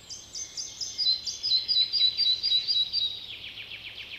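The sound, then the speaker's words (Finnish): A red-breasted flycatcher sings a bright, high series of repeated descending notes that speed up and then fade slightly, heard clearly on its own with faint low background rumble. “Siellä visertää pikkusieppo”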